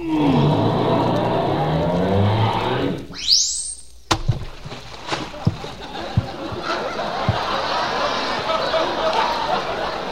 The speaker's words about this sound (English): Okay, but driving up a gangplank is just as simple as, even simpler. Now, you just back her up a little. Then you aim your car right for the front of the ramp and you give her the gas.